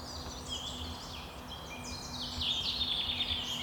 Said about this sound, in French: Une autre espèce, ça c'est la rousserolle effarvate.